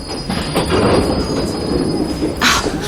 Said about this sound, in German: Heute kommt mir die Fahrt mit der U-Bahn irgendwie länger vor als sonst. Aber sieh mal, die nächste Haltestelle kommt schon.